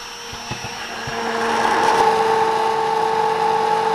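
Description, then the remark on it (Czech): An immersion blender whirs steadily through chocolate ganache made with cream and soaked gelatin, a continuous motor hum with a bright tonal whine that swells louder after the first second and holds, with a few soft clicks at the start. “Teď si vezmu tyčový mixér, promixuju tu ganáš tyčovým mixérem.”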